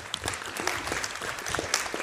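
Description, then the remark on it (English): An audience at a session claps steadily for a laywoman guest speaker, a dense wash of many hands with scattered sharper individual claps standing out, sustained at an even moderate level with no voices. “So big round of applause for Geraldine.”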